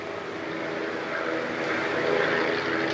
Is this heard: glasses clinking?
no